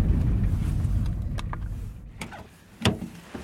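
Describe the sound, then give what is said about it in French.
A car engine rumbles low, then fades as the vehicle stops, followed by several sharp mechanical clicks and a solid thunk as a trunk is opened. “Alors, une voiture, un coffre.”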